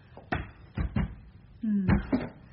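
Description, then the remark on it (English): Someone tries the heavy locked door at Chilton Ashwell, but it won't give: a series of dull wooden thumps and rattles, irregularly spaced, with a short low creak or squeak partway through. No one speaks. “Right, first, the door.”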